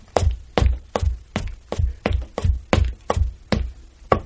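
Footsteps going up stairs, performed on a single piece of wood: about ten heavy, hollow thumps in a steady, even rhythm, each a deep woody knock, with no talking.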